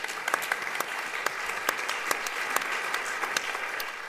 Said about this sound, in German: Dann einen ganz grossen Applaus auch für Schumann Jovic.